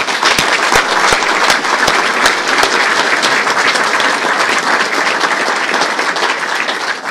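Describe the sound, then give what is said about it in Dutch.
Sustained audience applause fills the whole stretch, a dense, steady wash of many hands clapping at an even loudness, with sharper individual claps popping out irregularly, and no voices heard. “Ik zou haar een hartelijk applaus willen geven.”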